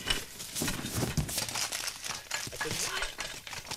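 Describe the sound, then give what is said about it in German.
Continuous rustling and crinkling as Frau Elster, a character in the Sandmännchen story "Herr Fuchs und Frau Elster", rummages through things, with irregular bursts of scraping and shuffling; speech-like sounds mixed in at times. “Och, nun hören Sie doch endlich auf, überall herumzukramen, Frau Elster.”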